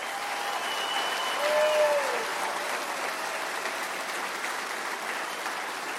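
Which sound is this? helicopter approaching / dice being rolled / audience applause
audience applause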